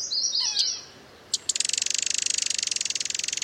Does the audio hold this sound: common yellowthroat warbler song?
yes